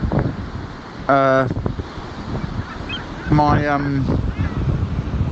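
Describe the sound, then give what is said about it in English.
Seaside wind and waves at Dover make a steady, rough wash throughout, broken by two loud, harsh honking bird calls, one early and one later. “I'm down in Dover. I'm by the sea.”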